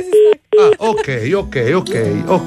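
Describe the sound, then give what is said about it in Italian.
Two short, loud telephone tones beep in quick succession as a phone call is hung up, then a voice begins talking right after them. “Va bene, uso telefono. Spero di arrivare. Fammi sentire tu, riaggancia.”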